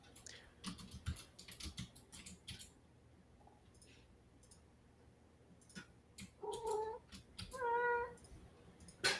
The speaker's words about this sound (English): Oh, we have a kitty on board. Yeah, that's my IRL familiar. Come here. Come here. Looks like a bat.